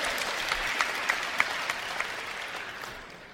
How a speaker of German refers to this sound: Erzbistum Freiburg, höre ich. Prima, danke. Klatschen wir für die Freiburger.